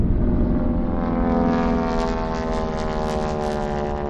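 A small propeller plane's engine drones steadily and loudly throughout, a continuous low, buzzing hum with layered harmonics that holds constant, no voices present.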